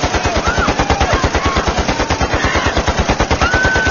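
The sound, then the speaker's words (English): A .50-caliber heavy machine gun on a ship's deck fires one long, unbroken burst of rapid, evenly spaced booming shots, loud and steady for about four seconds, with no voices. “The 50 cut loose, the heavy slugs slamming their tattered bodies past the gunwale and over the side.”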